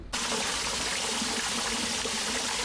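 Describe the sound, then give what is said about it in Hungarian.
Water continuously trickles and seeps through the riverbank wall along the city section of the Tisza river, a steady bubbling flow that holds an even level throughout with no voices or other sounds. “A Tisza városi szakaszán folyamatosan szivárog a víz a partfalon keresztül.”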